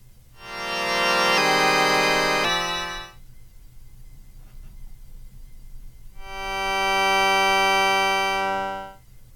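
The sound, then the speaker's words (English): A harsh, buzzy synthesizer tone honks loudly, stepping through three pitches over a few seconds, falls silent, then returns as one steady, bright drone. No one speaks. “Let's get that honk out of there.”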